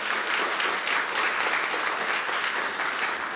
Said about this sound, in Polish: Dzień dobry. Dzień dobry. Poprosimy o brawa. Dzień dobry państwu.